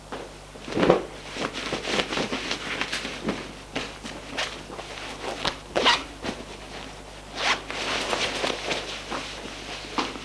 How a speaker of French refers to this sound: Ses vêtements sont collés à la peau. Il se déshabille.